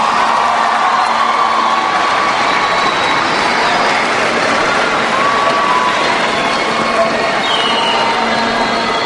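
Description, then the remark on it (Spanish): A crowd applauds and cheers continuously for the love that Jesus brings, a dense, loud wash of clapping with scattered shouts and whistles rising above it, steady throughout with no pause. “Y si alguien ahora sí le quiere dar un aplauso a ese amor, que se lo dé.”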